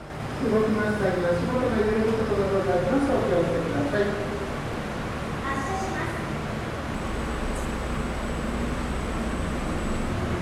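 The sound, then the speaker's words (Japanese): Riding inside the Inasayama slope car in Nagasaki, Japan, on its 8-minute one-way trip: a steady mechanical hum and rumble fill the cabin while a voice speaks over it, with a thin high whine and deeper rumble in the closing seconds. “実は私も先日乗車してきましたので、その時の音をどうぞ。”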